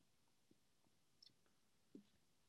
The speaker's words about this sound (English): Okay, just get my notes here. Oops, clicking on the wrong thing.